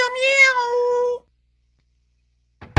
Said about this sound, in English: Meow, meow.